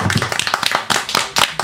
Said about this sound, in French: Il y a d'abord le retour de notre soprano préféré. En même temps, est-ce qu'on en connaît d'autres dans l'émission? Je ne sais pas, à voir. Non, je crois pas. C'est Veronica Antonelli qu'on applaudit très très fort.